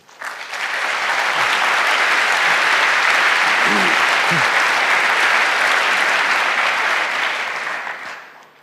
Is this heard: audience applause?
yes